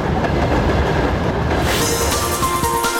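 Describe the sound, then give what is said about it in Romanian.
A train on the line between Băsărăbească and Cimișlia passes a house with a continuous heavy rumble, making the house shake slightly, its wheels clattering and brighter metallic tones rising as it goes, loud and steady throughout with no voices. “Acum s-a uit trenul.”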